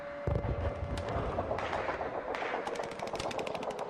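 Cannon fire booms out in a battle scene: a heavy blast, a few more scattered explosions, then a rapid volley of sharp cracking shots near the end, with no voices.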